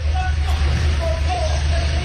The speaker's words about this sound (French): Beaucoup de stations-service sont à sec, faute de chauffeurs pour les camions-citernes. Une pénurie aggravée par la ruée des automobilistes paniqués, des files d'attente et beaucoup d'énervement, vous l'entendez.